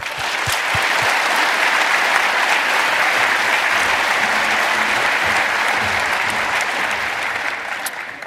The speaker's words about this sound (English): So if you'll join me in giving them a round of applause, please.